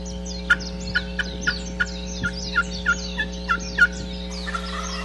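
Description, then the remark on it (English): A wild turkey gobbles in a fast run of about a dozen sharp, rattling, warbled notes over a steady low hum, then breaks off into quieter calls; heard on an afternoon hunt in a rainforest on an old grass road, answering a Hook's glass call, with a little wind and other birds. “Listen to the birds in the rainforest. Isn't that cool?”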